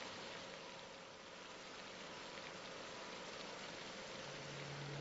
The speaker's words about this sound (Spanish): esparciendo una fina niebla de agua sobre el suelo. Los depósitos de agua fósil situados a profundidad por debajo de la superficie, componentes del acuífero del Sáhara, se conectan para alimentar este circuito de aspersión.